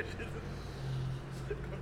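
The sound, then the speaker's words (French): Low traffic rumble from two cars passing by outside, a steady muffled engine drone with a slight swell partway through, and a faint voice in the background. “Ah, combo là, il y a deux bagnoles en plus.”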